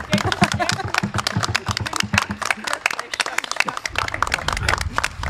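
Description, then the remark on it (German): An audience applauds a fragrance expert guest, with dense, steady clapping that fills the whole stretch, many hands overlapping into a continuous rattling roar with occasional murmurs underneath. “Dann bekommen Sie jetzt hier Ihren Applaus.”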